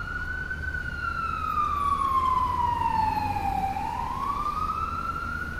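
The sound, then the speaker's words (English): Fire truck sirens wail loudly and steadily, the tone sliding slowly down and sweeping back up, over a low rumble of engine and road noise, with no voices, as the trucks rush to a residential street for a fire at a pie factory. “Apparently, I had slept right through the raging part of the raging inferno, the part where trucks with loud sirens rushed to my street and nearly 100 firefighters swarmed within feet of my house.”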